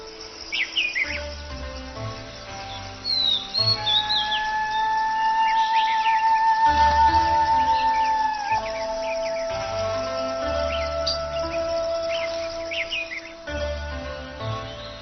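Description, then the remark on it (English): A dense dawn chorus of forest birds claiming their territories in the canopy, many chirps, trills and long whistled notes overlapping continuously, with a steady insect-like drone beneath and no voices. “As dawn arrives, forest birds claim their territories in the canopy.”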